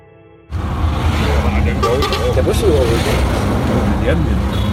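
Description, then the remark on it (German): After a brief quiet moment, a loud, steady roar of busy, chaotic traffic on the A1 highway heading back to Colombo cuts in, with deep engine rumble and wavering tones rising above the continuous road noise. “Wir quälen uns erneut durch den immer verrückten Verkehrsbrei der A1 zurück nach Colombo.”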